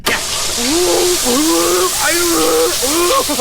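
A loud, steady blast of high-pressure water from a hyper shower, normally used to blast rust off components, hisses nonstop for the whole stretch as it sprays a person in the face, who makes drawn-out vocal sounds over the rushing noise.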